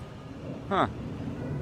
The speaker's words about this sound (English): We're about to hear a noise right now. Oh, the Brinks truck has shown up.